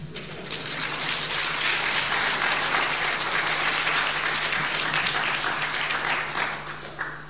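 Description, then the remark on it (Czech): An audience breaks into sustained applause after a testimony of healing, many hands clapping in a dense, steady wash that swells quickly, holds for several seconds, then fades toward the end. “Teď by bylo asi nejlépe zatleskat, nebo...”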